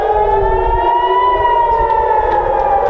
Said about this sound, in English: With sirens blaring and air defenses intercepting the missiles, alarms across Israel sent people scrambling for their air raid shelters.